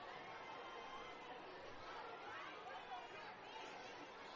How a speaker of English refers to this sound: Fans up in the suites are excited.